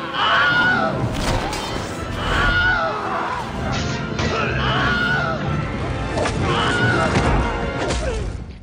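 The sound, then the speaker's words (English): Several short, pained male screams, the Wilhelm scream stock movie effect, ring out over a loud, dense battle din of crashes and thuds, recurring every couple of seconds with no talk. “The Wilhelm scream is in all three Lord of the Rings movies and all three Hobbit movies.”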